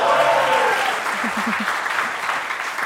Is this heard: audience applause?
yes